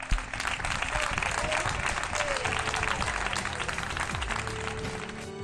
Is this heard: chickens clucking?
no